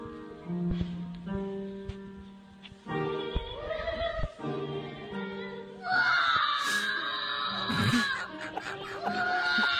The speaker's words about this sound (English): Well, this is some kid singing in a choir and it quickly goes off the rails when one of them begins screaming like he's possessed.